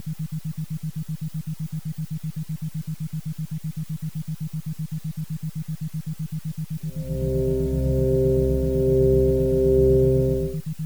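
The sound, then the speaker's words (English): Steady electronic relaxation tones hum at a low, even pitch, pulsing gently; partway through, a fuller, brighter chord-like drone swells in and layers over them before fading near the end. “Continue now, as you listen to the tones, to visualize your perfect, peaceful place.”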